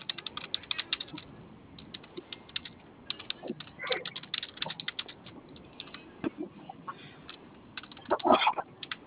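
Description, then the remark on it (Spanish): Rapid, irregular clicking of computer keyboard keys being pressed, fairly quiet, with a brief louder cluster near the end and no talking. “¿Sí le prende su teclado?”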